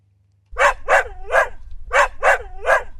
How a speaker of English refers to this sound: It's that familiar and I would hope probably comforting sound of the faithful dog. And for most of you listening, faithful working dog or farm dog that I know that are important parts of the team.